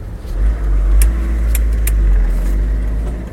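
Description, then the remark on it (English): A car engine rumbles low and steady from inside the vehicle as it rolls slowly into a car park, with a few faint ticking clicks overhead and no talking. “So we're pulling into the car park here of the, what's it called, the Bridge Inn?”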